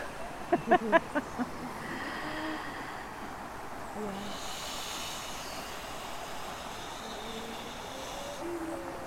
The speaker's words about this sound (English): Did you notice that there were a few friends with us? No? Yeah, birds have come. Yeah, it's wonderful. Lots of them too.